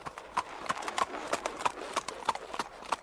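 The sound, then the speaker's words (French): A thin horse pulling a cart sets off, its hooves clip-clopping at a steady walking pace, a regular series of sharp knocks with a faint background hum, clear, without any voices. “Puis il lançait un « Hu, cocotte !» qui remettait en route son maigre cheval.”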